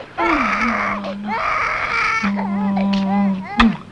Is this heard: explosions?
no